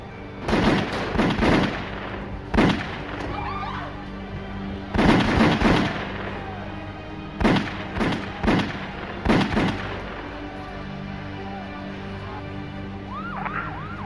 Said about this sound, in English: after Della Croce's death, Castellano and his new underboss, Tommy Bilotto, pulled up to a fashionable steakhouse in Midtown Manhattan to meet some associates for dinner. As they started to exit the car, several men approached them and began firing.